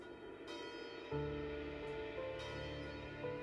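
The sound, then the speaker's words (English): Church bells in Moscow ring in the new year in overlapping strikes, each new toll blooming over the lingering hum of the last. The peal sounds soft, with no voices present. “Vitaly returned to their flat and boxed up her belongings as the Moscow church bells rang in the new year.”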